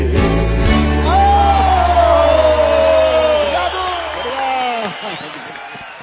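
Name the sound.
audience applause and cheering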